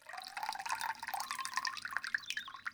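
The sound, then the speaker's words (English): Pippa's granny pours water steadily into cups, a continuous splashing trickle with bright gurgles and drips, moderately loud, with no voices. “Pippa's granny puts water into cups.”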